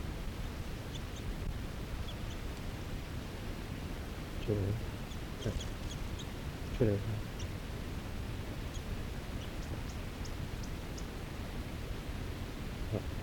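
A small wild bird chitters about 6 feet away in snowy trees, with brief, thin high chirps scattered irregularly over a steady outdoor hiss, plus a couple of soft low thumps partway through.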